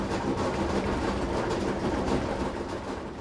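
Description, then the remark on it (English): An old clothes dryer in a laundry room in Los Angeles runs loudly, giving off a steady, dense rumbling drone with a faint rattling texture that holds at an even level throughout, with no voices. “And my friends tell me to get a new dryer.”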